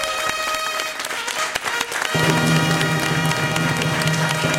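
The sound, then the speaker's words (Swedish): Studio audience applause for team P3, winners with 40 points in a radio music duel against P4: dense crackling clapping that starts with scattered claps and swells into a full, steady ovation, with a sustained tone rising beneath it midway. “Ja, en stor applåd till P3.”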